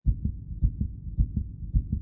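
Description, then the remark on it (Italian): A fast heartbeat thuds in quick lub-dub pairs, deep and muffled, pounding steadily with nothing else around it. “Paul respirava forte, il battito del cuore come impazzito”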